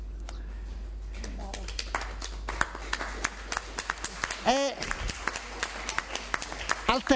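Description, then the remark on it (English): An audience applauds for several seconds, a dense patter of many hands clapping at moderate volume, while a single voice calls out briefly in the middle. “al tempo non applaudiamo troppo”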